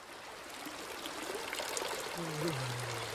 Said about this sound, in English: He hitches up his tunic and starts to pee.